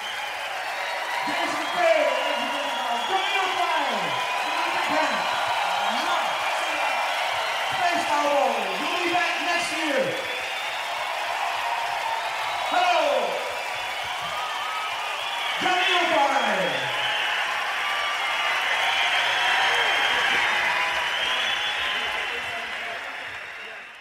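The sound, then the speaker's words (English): A crowd applauds steadily for about twenty seconds after a live concert, a dense wash of clapping mixed with rising and falling whoops and cheers that fades out at the end. “Huge round of applause for these very fine musicians.”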